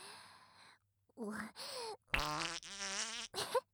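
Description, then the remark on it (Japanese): A quick run of several fart noises, fairly loud: short squeaky blasts, a longer fluttering, rippling one, then a brief final toot, with a faint breathy sound at the start; they follow a meal of ramen, garlic-heavy fried rice and gyoza. “こんなん屁臭くなって当然だよね。”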